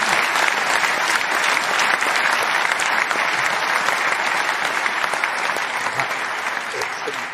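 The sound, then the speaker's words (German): Sustained applause from a crowd, a dense steady wash of clapping at an even loud level for the whole stretch, tapering only slightly toward the end, with no talk over it. “Und also für mich auf jeden Fall ein Applaus wert, weil das finde ich ganz, ganz stark.”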